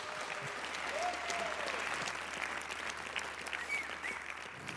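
Sustained applause from a sizable audience welcoming a speaker to the stage for a conference talk, a dense steady patter of clapping hands for several seconds, with a few faint whistles or cheers rising above it.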